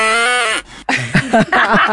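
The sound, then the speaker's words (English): A cow's moo, processed with auto-tune into a steady, robotic pitched tone, sounds loud for about half a second, then cuts off as people start talking. “We auto-tune the cow.”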